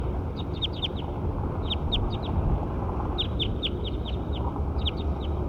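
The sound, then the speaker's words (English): A recording of the call of bird number 7 plays in repeated bursts of quick, high chirps, four or five notes per burst, over a steady low rumble of background noise. “We're going bird 7 again.”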